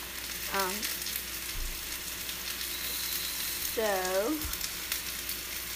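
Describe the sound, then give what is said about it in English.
Steady crackling sizzle of ground pork browning in a hot pan, a dense hiss throughout with two brief scraping, tonal swishes from stirring and a low thump near the end. “So my hamburger is browning, or pork, ground pork. So while it's browning, I'm just going to dice up my onion.”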